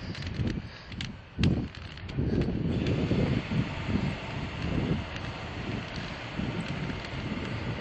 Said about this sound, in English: It's supposed to be really hot today, like 35 or something, with the humidex, but as of now, it's warmish, but it's not terribly bad. There's a nice breeze, at least.